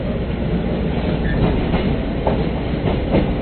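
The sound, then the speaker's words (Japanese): A steady rumble of a Chitetsu electric train, the limited express Alpen Tokkyu bound for Tateyama, rolling along the rails, with faint rhythmic clicks from the wheels passing over track joints. No one speaks. “地鉄電車ご利用いただきまして誠にありがとうございます。”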